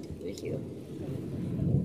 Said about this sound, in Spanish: Ah, eso que están escuchando son truenos, porque sí.